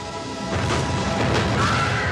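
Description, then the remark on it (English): Penelope's small racing cart swerves, somersaults off an embankment and crashes into a field of lollipops: a loud, continuous burst of rattling, tumbling impact noise that swells after the first half-second and stays heavy, with no voices. “She crashes in a field of lollipops, and Ralph and Felix run to her.”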